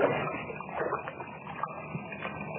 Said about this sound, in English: As they wade through the water of a partly flooded shaft, the sound filters down through the mine.